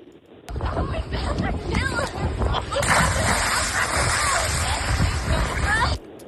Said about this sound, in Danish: Var det hovedspring, var det maveplasker, eller var det en bombe? Jeg tror, den der, nu var jeg havde ellers nummer 2 som hovedspring, fordi jeg havde lige taget 1, 2 og 3. Jeg tror, det der, det var bomben.